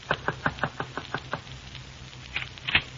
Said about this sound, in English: It was exactly 9:10 when I knocked on Marvin's door.